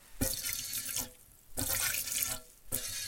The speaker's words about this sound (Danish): Og det der ligner fire tissemænd, det er altså det, der hedder et yver. Det er koens patter. Det er der, hvor en lille kalv kan få sin mælk. Men mælken, den kan også ryge ned i en spand.